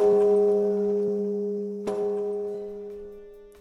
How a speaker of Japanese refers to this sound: うわー、また鐘の音がうるさくなってきたな。